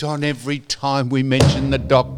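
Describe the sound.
A single sharp thud of a phone slammed down onto a desk, fairly loud, landing in the middle of ongoing conversation as people keep talking over it.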